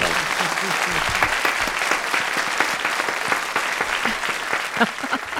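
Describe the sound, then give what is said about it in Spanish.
Steady audience applause welcoming a fan as a guest fills the whole stretch, many hands clapping in a dense, continuous patter at a fairly loud, even level, with faint voices murmuring underneath. “Un aplauso, por favor.”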